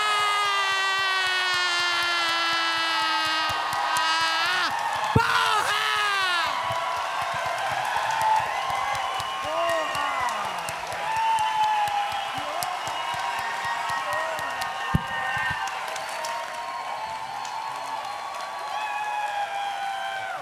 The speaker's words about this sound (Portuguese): Aplaude mais uma vez. Palmas, palmas, palmas.